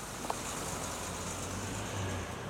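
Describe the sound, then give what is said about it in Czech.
A bus driving away: its engine rumbles steadily with a low droning hum and broad road hiss, swelling slightly near the end. No one speaks. “Musíme jet autobusem.”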